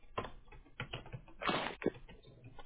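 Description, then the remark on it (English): Rapid clacking of computer keys as a billing address is typed in for a payment, in short, irregular bursts, moderately loud, with brief pauses between runs of keystrokes and no voices. “Hold on one second. Putting it in.”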